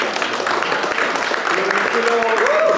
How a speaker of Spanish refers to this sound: Ha sido maravilloso. Bueno, un aplauso para...